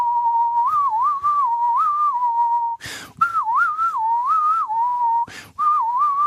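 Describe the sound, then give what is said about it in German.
A person whistles to imitate wind whistling through a chairlift: a steady, wavering melodic whistle, broken twice by short breathy gusts of noise. No one speaks. “Der Wind, der durch den Lift pfeift, macht original.”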